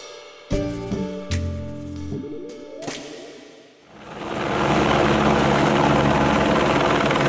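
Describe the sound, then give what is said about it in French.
A few short musical notes give way to a helicopter whose steady roar swells quickly and stays loud, as if hovering or passing low overhead. The helicopter is carrying snow from the top of the mountain down to the lower pistes at the Luchon-Superbannière ski station in the Pyrenees, France. “Dans la station de Luchon-Superbannière, la neige a fini par tomber, mais d'un hélicoptère.”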